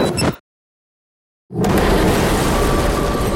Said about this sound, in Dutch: Dan de derde knal.